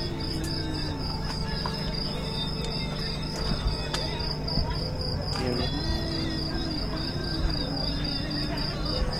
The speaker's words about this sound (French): Des voix indistinctes, les cigales, le vent. La voix de Moria à minuit.